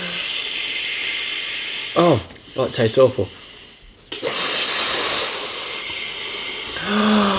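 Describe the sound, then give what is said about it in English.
Air is blown into a balloon in long, breathy rushes of hissing noise, broken by a short pause. A person speaks briefly between the blows, and a voice returns at the end. “Right, let's blow this one up.”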